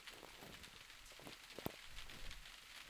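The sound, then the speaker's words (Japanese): Steady rain patters down continuously, a dense wash of hiss with scattered drops and one sharper tap partway through, at moderate, even volume with no voices; rain that began after fine weather. “雨だ。さっきまでいいお天気だったのにね。”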